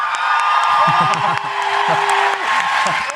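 A crowd applauds a contestant loudly and steadily, a dense wash of clapping with whoops and shouted cheers rising over it throughout.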